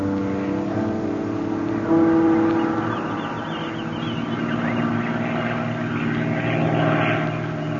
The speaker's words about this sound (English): Here comes that Jap scouting plane again. They've been over here every day. They haven't found us yet.